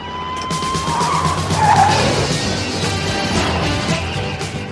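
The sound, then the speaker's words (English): A car skids loudly across rough ground as it drives into the woods, tires scraping and engine roaring in a continuous gritty rush that swells midway, with a high squeal cutting through briefly near the start. “Drives into the woods.”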